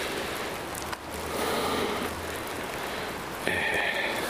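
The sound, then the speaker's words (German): Steady rain falls in a dense, even hiss with fine pattering detail, continuous, briefly dipping before swelling again; no voices are heard. “Touchscreen und Regen vertragen sich nicht.”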